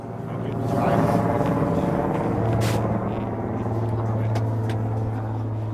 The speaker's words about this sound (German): Ein Hubschrauber fliegt über den Ort. Neben den Schneemobilen das wohl wichtigste Fortbewegungsmittel.